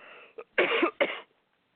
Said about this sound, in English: Sorry, I'm going to cough for a second.